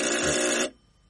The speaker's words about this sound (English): You see the handle in front of you? Yes. Press it downwards and forwards when the buzzer sounds.